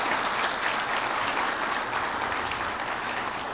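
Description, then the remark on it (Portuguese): A crowd claps steadily and loudly, a dense continuous wash of many hands with no pauses, sustained throughout and no speech over it. “Para Jesus e para você, dê uma forte, forte salva de palmas.”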